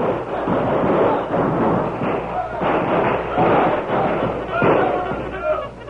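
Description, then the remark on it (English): Sharp gunshots crack again and again over a constant, loud din of shouting voices as army troops and outlaws fight on the banks of a river, a dense and chaotic battle noise with bursts landing every second or so. “For the next 10 minutes, the banks of the river echoed with shouts and shots and the shrill braying of the mules.”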